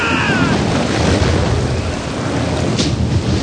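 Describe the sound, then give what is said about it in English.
A loud, continuous storm roar: heavy rain and crashing waves over deep rumbling wind, with a brief hissing gust near the end and no pauses throughout. “You call this a storm?”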